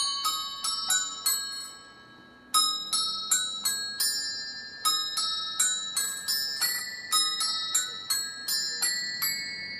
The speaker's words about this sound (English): composer Terry Mann, inventor of the strange bell ringing Automata Musica Number 1